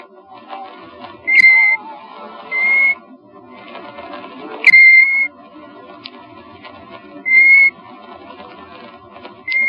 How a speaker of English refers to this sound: Pheasants were all over the place, and golden plover whistled among the lapwings.